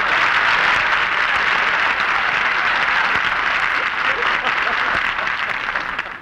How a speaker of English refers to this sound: Barbara, wait for your applause.